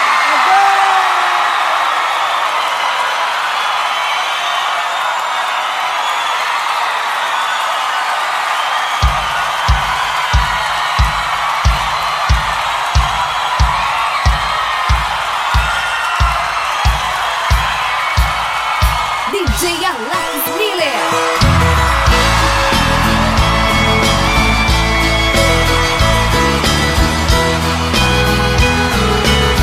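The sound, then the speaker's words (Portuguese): A crowd applauds and cheers in a dense, steady roar with occasional whoops as a duo is introduced; partway through a thumping bass beat joins, and music then swells in over the continuing noise. “Eu gostaria que vocês aplaudissem os mais chonados do Brasil”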